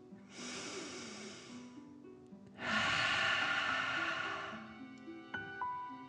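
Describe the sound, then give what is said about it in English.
A slow, deep inhale through the nose, then a longer, louder exhale out through the mouth, a "dragon breath" in a guided breathing exercise, with soft music playing underneath. “Breathing in through your nose and breathing fire out of your mouth.”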